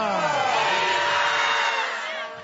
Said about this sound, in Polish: Niesamowite spojrzenie na tę plażę, której my przypatrujemy się od paru dni podczas trwania Światowych Dni Młodzieży. I ten okrzyk, okrzyk pozdrowienia Ojca Świętego Franciszka.